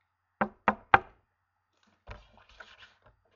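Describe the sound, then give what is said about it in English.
Three sharp, evenly spaced knocks on the door of a home ring out clear, followed after a pause by quieter shuffling and faint indistinct sounds. “Let's knock at the door.”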